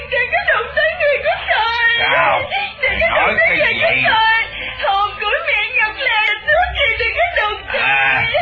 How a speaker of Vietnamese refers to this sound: Đậu Rồng biết tình thế đang nguy ngập, nó muốn khóc, nó hét to lên.